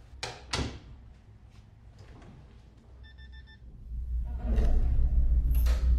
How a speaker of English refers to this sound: enters a hallway from the wood door to the lab.